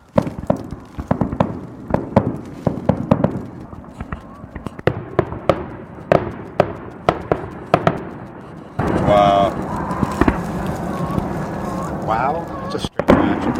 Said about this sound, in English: Oh, here we go. Oh, really? Fireworks have begun. Hey, it's starting.